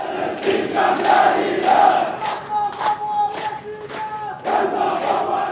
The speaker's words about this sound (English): Police pushed and shoved the crowd out, but not before they could chant, Ya Falestin, Ihna Asfin, Ihna Kaman Mihtalin. Oh, Palestine, we're sorry, but we too are occupied.